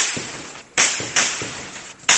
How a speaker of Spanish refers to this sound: Así suenan parte de las ráfagas de balas producto de los enfrentamientos entre fuerzas de seguridad y bandas criminales que desde hace meses generan incertidumbre en varias comunidades del oeste de la capital venezolana.